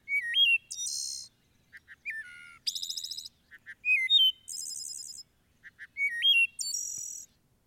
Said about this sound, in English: It's just a wonderful song from deep in our larger forest stands in Wisconsin. And if we have a chance, let's take a listen. Yeah, let's see if we can hear the wood thrush.